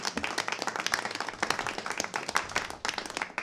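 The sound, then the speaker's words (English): Audience applause fills the space, a dense wash of many hands clapping at a steady, lively level with no one speaking over it. “And before we sign off, I again want to say thank you to Pete, and I think he deserves a huge round of applause for putting this together.”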